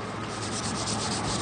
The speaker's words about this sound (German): Wie ihr hört, werden hinter mir gerade die Stufen des Eingangs zum Dom geputzt.